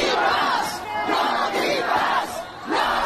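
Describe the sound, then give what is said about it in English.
A loud crowd of street protesters in Turin, Italy, opposing the green pass, chanting "no green pass" in unison, the shouted phrase rising and falling in a steady repeating rhythm, roughly every second. “So they're shouting, no green pass, no green pass.”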